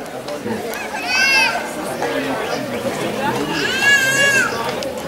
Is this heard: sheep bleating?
yes